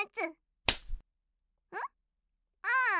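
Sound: slap on the buttocks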